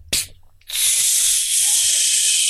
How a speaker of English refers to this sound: That might be the air flowing out of that balloon.